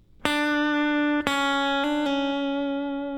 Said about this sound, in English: Then a hammer on and pull off from the third fret back to the second fret. So now we have... And do kind of a triplet run, which is a hammer on and pull off back from the third back to the second fret of the B again.